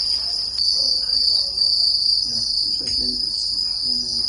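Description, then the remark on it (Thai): Dense, continuous high-pitched chirring of many crickets at a cricket farm in Kisumu, Kenya, a shrill unbroken drone at steady volume with faint low rustles and thumps underneath. “เกษตรกรในเมืองนี้เป็นคนบุกเบิกการทำฟาร์มจิ้งหรีดค่ะมีจุดเด่นคือเสียงร้องที่เป็นเอกลักษณ์แต่ว่ากลายมาเป็นอาหารทางเลือกของผู้คนในเคนยาค่ะ”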